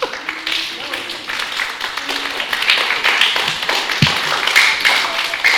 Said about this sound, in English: They're clapping for you, because that is such a good point of all the different ways there are to serve, you know?